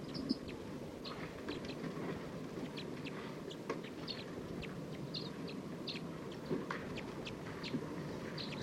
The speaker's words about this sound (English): This is recording wild bird. This is a wild flock. Calling a lot more, looks like they're gonna take off. Stop. There are about 14 birds in this flock.